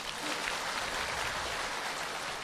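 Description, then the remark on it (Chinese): A crowd applauds in a steady, dense wash of clapping that holds at an even loudness for a couple of seconds, with no single claps standing out. “啊，鼓掌啊！”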